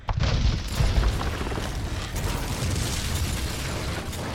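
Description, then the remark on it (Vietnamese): The pressure wave of a nuclear warhead explosion roars past, a loud, deep boom that swells early and keeps rumbling steadily with broad, gritty noise for several seconds, no voices present. “Sử dụng hết 50% năng lượng của toàn bộ đầu đạn, nó cũng sẽ kèm theo một làn sóng áp suất cực lớn.”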